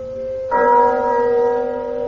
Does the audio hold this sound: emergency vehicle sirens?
no